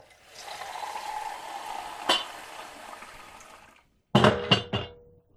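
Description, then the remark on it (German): Tap water rushes steadily into a kettle in a kitchen for several seconds, with a sharp clunk midway, then it stops and a few quick clattering knocks follow, fairly loud; water is being put on for tea. “In der Küche nimmt er eine Tasse, legt einen Teebeutel hinein und setzt Wasser auf.”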